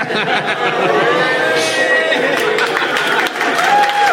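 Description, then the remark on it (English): An audience applauds for about four seconds, a dense, steady wash of clapping that stays loud throughout, with cheers and raised voices mixed into the crowd noise. “We got an applause break.”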